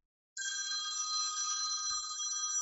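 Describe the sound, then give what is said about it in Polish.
A telephone rings with a steady, bright electronic tone that starts abruptly and continues without pause, clear, with no voices over it. “Przepraszam, jakiś telefon mnie tutaj zaskakuje.”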